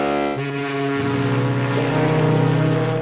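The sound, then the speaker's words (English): A loud, deep horn of a huge cargo ship off Southern California in the Pacific blares continuously, its sustained low tone shifting pitch a couple of times as it sounds without pause, filling the air. “Monster ships with big horns.”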